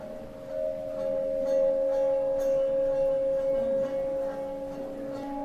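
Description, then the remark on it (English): A water bell on display among Czech, Tibetan and Buddhist temple bells rings with a steady, sustained resonant tone, a pure mid-pitched hum with a lower overtone that holds evenly for several seconds, its resonance making the water play in little bubbles, with faint clicks in the background. “This year we have here not only the Czech bells, but also from Tibet and from Buddhist temples, and visitors can even try this water bell. Some resonation, and the resonation make the water play.”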